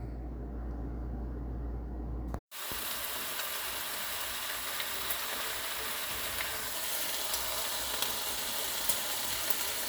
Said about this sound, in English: We got the bacon going. Hi, baby. Hi. Got that bacon going. You hear it popping?